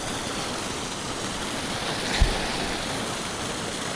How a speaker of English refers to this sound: The water's running down over bare rock and then tumbling over a little waterfall about 4 or 5 foot high and then into a pool, and the water is very brackish. It's brown, it's stained by peat.